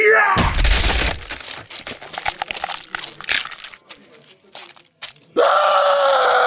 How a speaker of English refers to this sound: Oh my God! His arm! He punched McSalty in the face and his arm just shattered. Jesus Christ, McSalty didn't even blink.